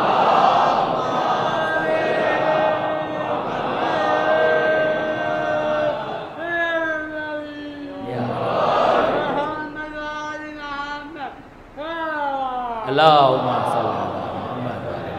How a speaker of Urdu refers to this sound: اب ظاہر ہے کہ ہمارے اتنے محبت کرنے والے دوست ہیں, اتنی محبت سے نعرے لگا رہے ہیں تو ہم منع تو نہیں کر سکتے.